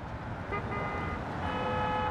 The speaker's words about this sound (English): If you place yourself on any street in Manhattan, there's always this underlying whoosh of traffic, which if you are sensitive to sound, you'll probably pick up on pretty quickly.